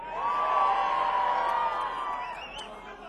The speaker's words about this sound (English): Is that a round of applause for, like, porcelain bells?